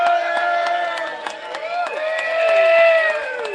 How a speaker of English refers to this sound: I'm going to give one more round of applause. Ask for one more round of applause, everybody